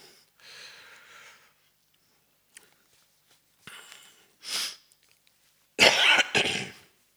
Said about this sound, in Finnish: Mä en ole vieläkään oikein kunnossa. 2 viikkoa on köhä jatkunut.